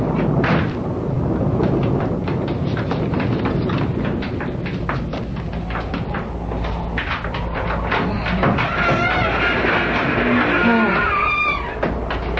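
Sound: thunder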